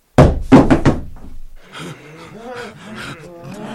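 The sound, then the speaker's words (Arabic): Four heavy, loud bangs on Lot's door in quick succession as people demand he open it or they will break it down, followed by several people talking and shouting over one another. “افتح الباب افتح الباب يا لوط، افتح افتح الباب وإلا كسرناها علي.”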